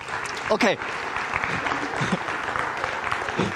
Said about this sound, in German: Ein Applaus.